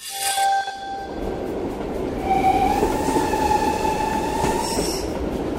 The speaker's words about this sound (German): Ja, okay, das klingt nach einer alten Dampflok, aber damit ging das Eisenbahnfahren nun mal los.